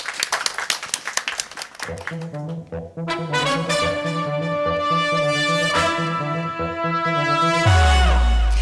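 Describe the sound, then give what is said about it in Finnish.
A brief smattering of applause from a small group during a live broadcast from Oodi lasts about two seconds, then gives way to a swelling musical jingle of sustained tones that ends with a deep low boom. “Otetaan pienet aplodit.”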